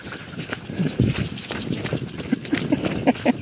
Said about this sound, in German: Ihr hört es vielleicht, da ist ein Rasensprenger so eingestellt, dass man rennen muss, um durchzukommen.